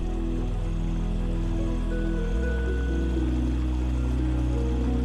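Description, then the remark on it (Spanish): A nearby stream murmurs steadily, a continuous low rushing of flowing water that holds an even level throughout, with no voices or other distinct sounds. “Siguiendo la colorida senda, escuchas el murmullo de un arroyo cercano que pasa junto a ti.”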